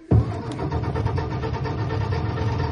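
A car engine catches abruptly and is revved, running loudly with a rough, rapid chugging pulse and holding a fairly steady roar for a few seconds with no voices.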